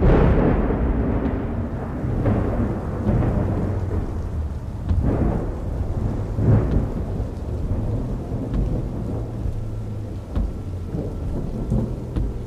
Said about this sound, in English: just as the storm hits land a little earlier than expected.